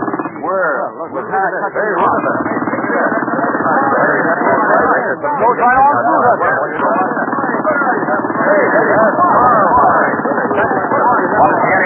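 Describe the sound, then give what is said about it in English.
A pneumatic rock drill, run on air pressure, cuts into a big piece of rock without pause: a loud, dense, rapid hammering clatter that holds steady for the whole stretch, with no break in its chattering rhythm. “This is five times faster than any drill I've ever seen or heard of.”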